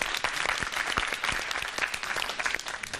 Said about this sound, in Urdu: بھائی بہت بہت مبارک ہو, تالیاں بجائیے گا.